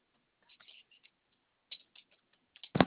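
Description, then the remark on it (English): Scattered, irregular clicks of someone typing an address on a computer keyboard that is giving problems, quiet taps in small clusters, ending with one louder thump. “I'm having problems with my keyboard.”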